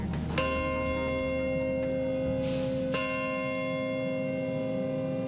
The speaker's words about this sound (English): A bell tolls at the site of the World Trade Center, remembering the day 16 years ago when terrorists struck and murdered over 3,000 innocent people in three separate locations in the United States.